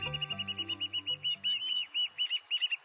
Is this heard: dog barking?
no